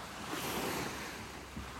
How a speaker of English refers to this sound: I keep pausing because I figure you want to listen to the waves as much as I do.